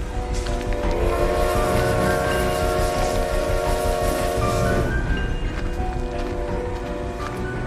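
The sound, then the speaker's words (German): Train station ambience on a foggy, damp day: a dense, steady wash of rumbling noise with a sustained mechanical hum that cuts out about two-thirds through, leaving a hissing, rain-like background. No one speaks. “Es war nicht einfach, sich durch diese unangenehm feuchten Luftmassen den Weg zum Bahnhof zu bahnen.”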